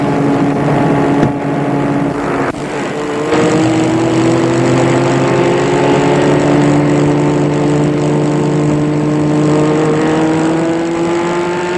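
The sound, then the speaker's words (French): A Rolls-Royce car engine revs and accelerates steadily in a small side street, its pitch climbing as the car speeds away; loud, with a brief shift early on and no voices. “La voiture file.”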